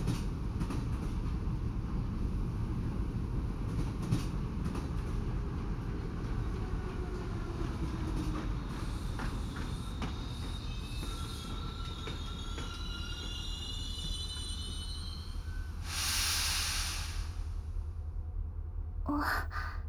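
A train rolls steadily along the rails with a constant low rumble, wheels squealing in thin high tones partway through and a brief hissing burst near the end. No one speaks.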